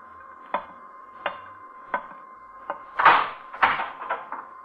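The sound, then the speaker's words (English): A door is opened: four evenly spaced wooden clunks, then a louder rattling scrape and a few quick knocks as it swings, with no voices. “Earthman, you will rise from your seat and open that door.”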